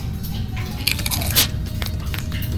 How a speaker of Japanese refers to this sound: で、なんか水の音が多分聞こえてきましたよね。今左行ってから聞こえてるでしょ。